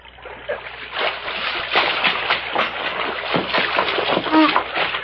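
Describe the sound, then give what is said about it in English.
Continuous splashing and churning water, with irregular sloshing bursts throughout, as a man's body is dragged from a creek. A brief vocal sound rises near the end. “Help me put him out in the creek before he drowns.”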